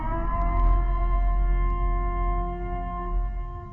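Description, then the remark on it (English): A loud siren sounds a steady, sustained wail with a rich buzzing tone, holding nearly unchanged for a few seconds over a deep rumble, with no voices. “Commencing at the siren, there will be no holds barred.”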